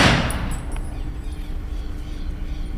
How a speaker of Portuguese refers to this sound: Três salvas de tiros de fuzil e depois salvas de artilharia foram a última homenagem ao ex-senador Jarbas Passarinho durante o sepultamento do seu corpo no cemitério Campo da Esperança, em Brasília.